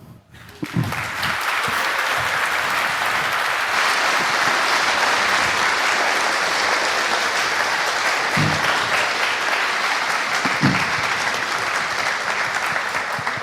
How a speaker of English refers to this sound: Applause well earned.